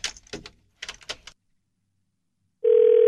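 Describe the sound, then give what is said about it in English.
A quick series of clicky button presses on a telephone with many buttons, a second of silence, then a loud steady telephone tone begins and holds as a call to the speaker's mother connects. “I just hang them up, but this one has all these buttons.”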